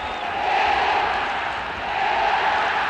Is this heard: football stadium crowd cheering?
yes